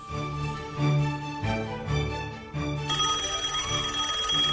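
A telephone rings with a bright, continuous electronic chiming tone that shifts partway through, loud, with no one talking over it.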